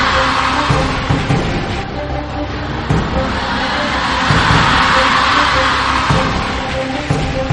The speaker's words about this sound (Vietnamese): Xin các bạn hãy cho một tràng pháo tay thật lớn để cùng đón Thượng tọa Thích Chân Tính và giáo sư Ngô Bảo Châu.